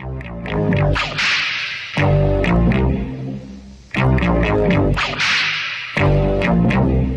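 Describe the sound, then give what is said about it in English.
A loud burst of theme music: full, dense instrumentation with sharp cracking accents, repeating a punchy two-second phrase several times. No voices. “And on that note, we cue the music.”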